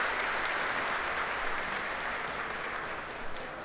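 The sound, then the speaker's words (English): A crowd at a V-Record Symbolic Contest and Old Time Dance applauds steadily for organiser Peter Grant of CJOB-FM Radio, a dense wash of many hands clapping at once, sustained and fairly loud for a few seconds before easing slightly at the end. No voices stand out. “Peter Grant of CJOB-FM Radio, you give him a hand.”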